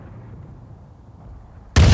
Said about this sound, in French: Soudain, un 240 fusant éclate à 300 mètres. Le souffle de l'explosion est énorme. On a l'impression que le ballon va éclater.